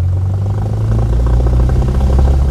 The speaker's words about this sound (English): On this already hot morning, Armando Alarcón and his pilot, Harold Aguirre, jump into their Cessna four-seater plane in El Paso and take off.